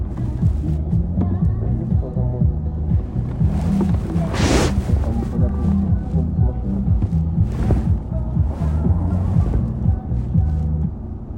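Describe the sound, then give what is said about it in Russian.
Steady FM radio static hisses throughout from a radio tuned to 108 FM, over a low throbbing hum, with a few brief swelling rushes that sound like waves breaking. No one speaks. “Поставь 108 FM. Ровно 108. Как океан шумит.”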